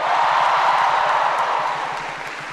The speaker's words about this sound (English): These guys were outstanding this year. Give them a bigger round of applause than that.